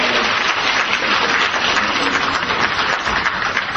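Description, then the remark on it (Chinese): Sustained applause from a Christian audience welcoming a married couple to the front, a dense crackle of many hands clapping at a steady, fairly loud level for about four seconds with no voices standing out. “我们来掌声来欢迎他们。”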